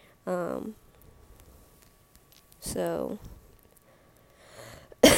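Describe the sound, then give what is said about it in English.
Two harsh, throaty coughs from a person who smokes a vape, a couple of seconds apart with quiet between them, then a brief burst of noise at the very end. “You hear that cough? That's why I need to stop smoking that vape.”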